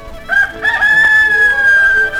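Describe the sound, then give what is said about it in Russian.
A rooster crows once, a loud cock-a-doodle-doo with a long sustained high note that holds for about two seconds before trailing off. “Слышишь? Он поет свою песенку.”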